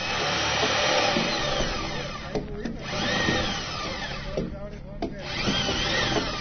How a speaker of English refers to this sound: They are drilling holes into the first round of logs that will be fastened to the concrete foundation.